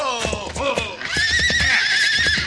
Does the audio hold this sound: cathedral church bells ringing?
no